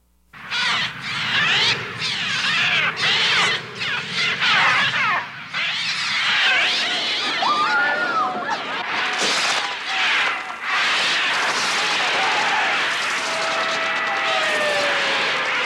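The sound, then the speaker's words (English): A loud, dense chorus of shrieking birds, harsh overlapping screeches and squawks swirling continuously, with no voices, like a frenzied flock, from the Alfred Hitchcock thriller The Birds, in which birds attack people. “Birds turn against people and attack them, pecking them to death.”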